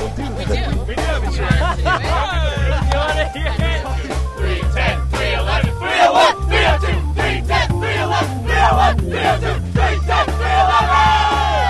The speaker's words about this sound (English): Do you guys have a cheer or anything, or...?